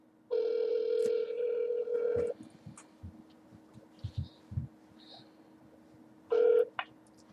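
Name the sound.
telephone dialing and ringing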